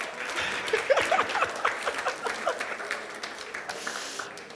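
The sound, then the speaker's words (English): A crowd applauds with dense, steady clapping that swells quickly and holds fairly loud before gradually thinning out, with a few faint chuckles mixed in, clapping for the speaker's auntie. “Ladies and gentlemen, help me with a clap to my auntie”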